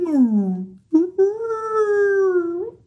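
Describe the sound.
A person vocally imitates a high-pitched whale call: a falling, howl-like tone, a brief break, then a long sustained high wail that fades out, fairly loud with no other sounds.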